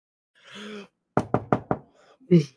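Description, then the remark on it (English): Four quick, evenly spaced knocks on a glass door marked pull to open ring out crisp, with brief vocal murmurs just before and after. “For the record, it's a glass door, and it just says pull to open, so you don't have to knock.”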